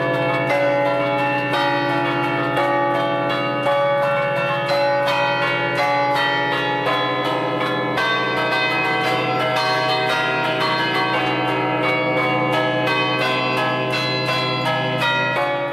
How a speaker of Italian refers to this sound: I sistemi automatici chiaramente perdono e spogliano le campane di quella umanità che veniva data da chi le suonava.